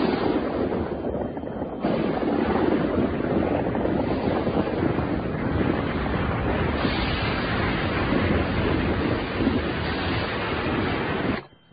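A violent windstorm roars without letup, a dense, turbulent rush of noise with gusty low rumbling underneath, holding loud and steady for about twelve seconds before cutting off abruptly.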